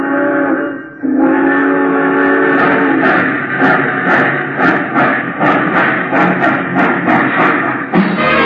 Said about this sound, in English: Attention, please. All passengers taking the chief to Chicago, please walk on tiptoes as you board the train.